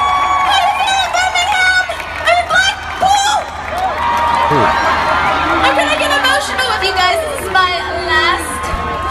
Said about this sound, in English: You're in Blackpool. Mm-hmm. And when you say that, you're going to get booed, and she does.